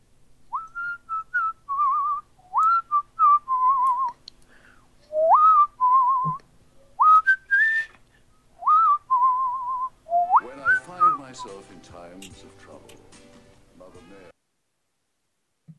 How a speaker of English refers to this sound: So that was you whistling ….